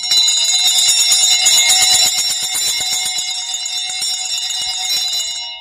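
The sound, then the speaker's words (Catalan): A frantic, clamorous peal of all the church bells rung at once for visitors, a fairly festive toll though not the general feast-day peal, loud, with rapid overlapping strikes forming a dense metallic wall of sound that fades slightly at the end. “Quan ja porten molta estona de visita, a vegades va bé desestressar-se una miqueta i llavors fer un toc una mica boig amb totes les campanes, que no és, evidentment no és el toc general de festa, però bueno, també és un toc bastant festiu.”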